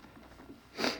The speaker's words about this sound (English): Pardon my sniffle.